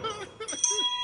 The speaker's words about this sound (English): I know this is Pierre's bell. That's a hell of a bell. We got to steal it. We need a companion bell.